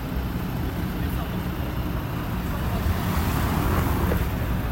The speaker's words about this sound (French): Je vois le mouvement des voitures, hein, tu vois. Mm-hmm. Je regarde là. Si les voitures sortent de là, c'est que c'est notre passage.